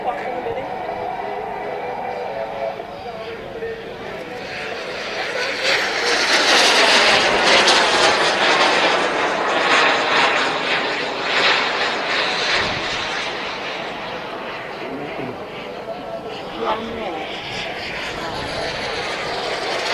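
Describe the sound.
Buzzing engine drone of model passenger planes, including a model of the Comet jet liner, flying overhead at an airstrip, swelling louder mid-clip then easing off, with a steady whine and people's voices faintly in the background.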